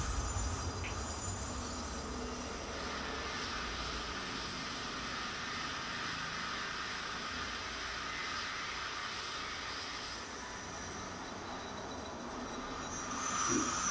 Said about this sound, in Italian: Ecco qui, giusto per... è l'incrocio tra un accelerato, l'Ikari, che arriva da Odawara, con un Nozomi che va verso Tokyo.